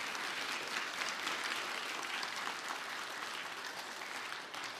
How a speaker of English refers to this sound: And let's go ahead and give them a round of applause.